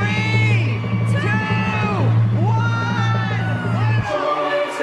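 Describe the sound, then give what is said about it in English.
A large crowd in Rockefeller Center, New York City, cheers loudly and continuously as the switch is flipped to light up the giant tree, a 74-foot Norway spruce from West Stockbridge, Massachusetts, with rising and falling whoops and yells over a steady roar that eases slightly near the end. “A huge crowd watched as they flipped the switch to light up the giant tree in Rockefeller Center on NBC.”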